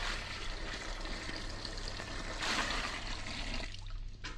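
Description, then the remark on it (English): A gallon of water from Niagara Falls pours in a steady, rushing stream as the final ingredient of a magic potion in a witch's cauldron, swelling briefly and then thinning out toward the end, with no voices. “3 drops of a woman's tears, and the final ingredient, a gallon of water from Niagara Falls.”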